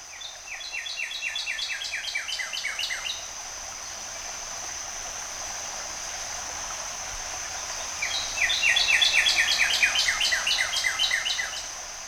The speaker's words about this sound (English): Then first bird tuning up. It's his immaculate redness, a cardinal. Or as we often call him here, Red Bird. Here's one singing now at Frisco Spring in Rogers.